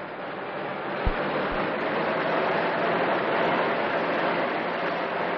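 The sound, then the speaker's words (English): A car speeding at night along the road to Eastwood, its engine and tyres making a steady, loud rushing roar throughout, with a couple of brief low thumps early on and no voices. “A car traveling fast along the road to Eastwood.”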